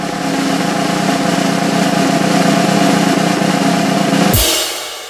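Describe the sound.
Two people, not the drummer, vocally imitate a drum roll to introduce a lightning round segment: a steady, loud, buzzing rolled-tongue sound for about four seconds, ending in a sudden bright, hissing crash that fades out quickly.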